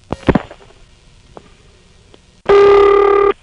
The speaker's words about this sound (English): Then we have the noisy kind that has no whooshing. And then there's the reasonably quiet type of carrier that whooshes.